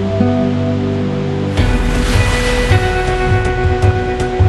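Ocean waves wash in after a quiet start, a loud, steady roar of breaking surf with small surges, while a soft sustained musical tone hums underneath.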